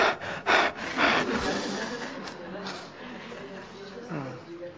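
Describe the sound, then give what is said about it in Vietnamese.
A voice imitates the heavy, labored panting of tourists climbing uphill, with several loud, breathy bursts at the start followed by quieter, rasping breaths. “Họ vừa leo họ thở.”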